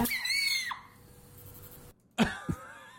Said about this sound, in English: So now you know what it sounds like when a chicken sneezes. Just like this. Sounds like a 2-year-old girl being possessed by demons. That's what it sounded like.